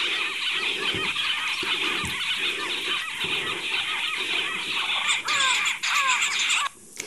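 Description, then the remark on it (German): A noisy chorus of harsh, squealing calls from southern pied babblers, birds of South Africa, fills the whole recording, several birds chattering and overlapping loudly and continuously, with no talking. “Ja, um ein bisschen näher an unsere menschliche Kommunikation zu kommen, gehen wir deswegen zu einem anderen Vogel über. Diesen hier, der südliche Elsterdrosselhering.”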